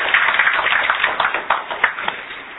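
An audience at a community lecture applauds to welcome a speaker, a dense wash of many hands clapping together that holds steady for a couple of seconds with no one talking over it.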